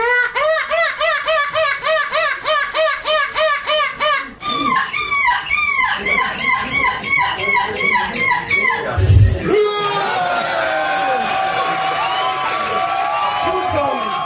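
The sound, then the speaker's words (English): A 10-year-old British boy imitates a seagull at a European gull screeching championship, letting out a long run of rhythmic, rising-and-falling squawks and screeches, high-pitched and loud, ending in a burst of shrill, wavering cries. “It was Goal Screeching Championship.”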